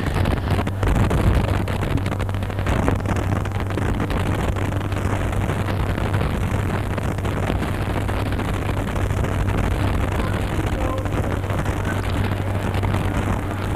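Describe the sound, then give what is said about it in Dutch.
A helicopter flying low overhead, skimming just above the roofs of the buildings on the Keizersgracht: a loud, steady roar of rotor wash and engine with a deep droning hum underneath, unbroken for the whole stretch, with no voices. “Het is inderdaad niet denkbeeldig dat ze vanuit de helikopter aan het proberen zijn om foto's te maken.”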